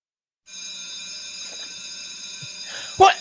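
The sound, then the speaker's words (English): A bell rings continuously with a steady, bright metallic tone that holds for about three seconds, ending in a brief louder burst. “Yeah, there it is. That's that bell.”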